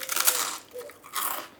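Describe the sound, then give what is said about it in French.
Crisp crunching of someone biting and chewing a biscuit, two bursts of dry crackly bites separated by a brief quieter pause, with no talking. “C'est bien quelqu'un qui mange un biscuit.”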